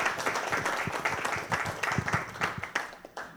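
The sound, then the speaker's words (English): An audience at a church gathering breaks into steady applause, many hands clapping in a dense, continuous patter that holds fairly loud throughout before thinning slightly at the end. “So join me in applauding that.”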